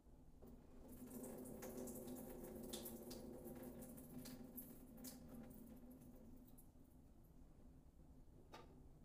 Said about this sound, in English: Pour the buttermilk out. You can keep it and use it later. Just pour it into a bowl.